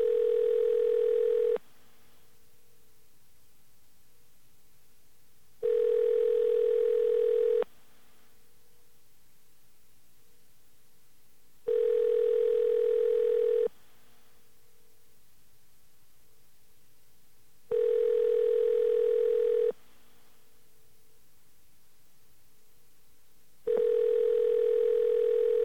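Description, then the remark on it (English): A telephone rings five times in a steady pattern: roughly two-second bursts of a buzzy, mid-pitched tone, separated by about four seconds of quiet hiss, then a small click as the call answering service kicks in. No one speaks. “Let's listen to the ring here. Now, after about four rings, you'll hear a difference, and that's when call answering starts to kick in.”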